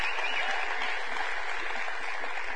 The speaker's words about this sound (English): Praise the Lord. Thank you. You're welcome. Would y'all just love on this band with a praise clapping?